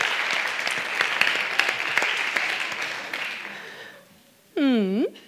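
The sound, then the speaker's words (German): Audience applause for a guest: a dense wash of many hands clapping for about four seconds, gradually fading out, followed by a short burst of a harmonic, wavering tone. “Dafür ein Applaus.”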